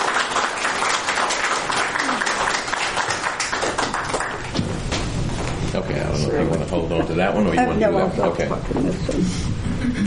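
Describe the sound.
An audience breaks into dense, steady applause for several seconds, many hands clapping together to thank a guest for coming, before it fades and a single voice begins speaking over the last scattered claps.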